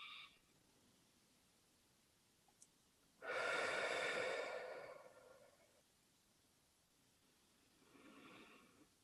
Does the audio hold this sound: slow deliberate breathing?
yes